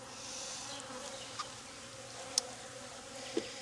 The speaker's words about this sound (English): Yeah, there's no burr comb yet, but they're starting to draw it out. Nice up close look at those bees for you.